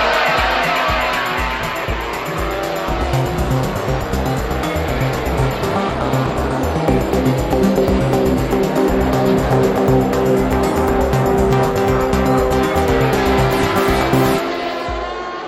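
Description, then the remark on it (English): A pack of racing motorcycles roars away from the start of a road race as the lights go, engines screaming loud as they rev up through the gears together, a dense continuous wall of engine noise with no voices. “The lights are on red. We're away.”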